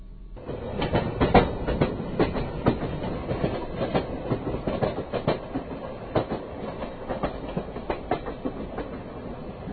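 A double-decker rush hour commuter train clatters steadily along the rails, with repeated sharp clickety-clack knocks over a constant rumbling roar, heard from on board as it runs into the city without stopping at Huntington.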